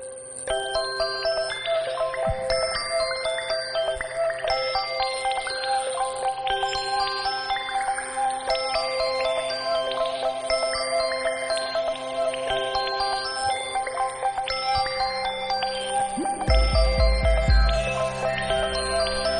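A mobile phone ringtone plays a bright, bell-like electronic melody, its quick notes repeating steadily at an even volume for the whole stretch, with a brief low thump near the end and no voices.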